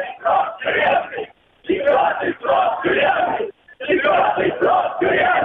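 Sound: protest crowd shouting slogans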